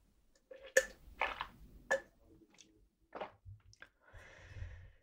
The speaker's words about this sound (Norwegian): Jeg tar en slurk vann, så ser vi hvordan det går.